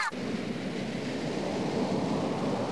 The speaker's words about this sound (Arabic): هذا هو البحر يا أحبائي، رائع بما أودع الله تعالى فيه من أسرار وجمال. إنه عالم جميل تعيش فيه مخلوقات بحرية متنوعة وجذابة.